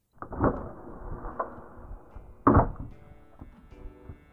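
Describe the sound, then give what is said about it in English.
An unlocked door opens with a few dull wooden thumps and clunks, the loudest near the end, followed by faint shuffling as someone steps inside. No one speaks. “You really shouldn't keep your door unlocked like that. You never know who might walk in.”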